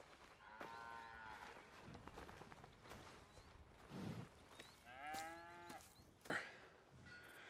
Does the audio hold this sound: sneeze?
no